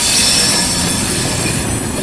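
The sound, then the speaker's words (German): Loud, continuous rumble of freight wagons rolling through a rail yard (Rangierbahnhof), with thin, high-pitched squeals ringing steadily above the noise throughout from track brakes mounted between the switches, which stop the wagons rolling down the hump too fast; no voices. “So ein Rangierbahnhof macht ziemlich Lärm, vor allem die Bremsen, die zwischen den einzelnen Weichen montiert sind.”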